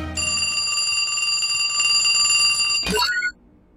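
A phone rings with a bright, metallic, bell-like trill that holds steady for nearly three seconds, then cuts off abruptly in a brief clattering burst, leaving near silence.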